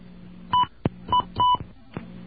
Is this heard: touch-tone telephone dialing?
yes